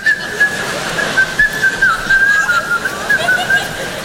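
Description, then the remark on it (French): Someone whistles a lilting tune, the clear, steady notes gliding up and down continuously for several seconds over a soft, noisy background murmur. “T'arrives le matin au bureau en France, tu sifflotes, tu te fais alpaguer.”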